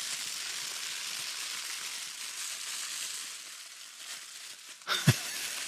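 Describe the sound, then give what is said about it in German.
Foil is crinkled in a steady, hissing crackle that imitates the shimmering fall of silver rain fireworks, ending with a sharper crunch and a brief louder rustle. “Wenn denn der Regen, also der Silberregen so runterkommt, dann nimmt man einfach so Folie.”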